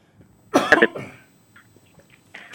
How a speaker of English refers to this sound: All right, sorry about that. I have a terrible cold and a cough, and I apologize to the listeners for that.